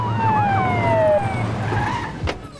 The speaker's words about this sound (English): Law enforcement vehicles pull up outside the club, and some officers make their way inside.